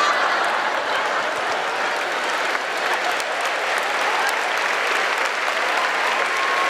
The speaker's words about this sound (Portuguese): Você está aplaudindo que não foi você que jejuou, mas tudo bem.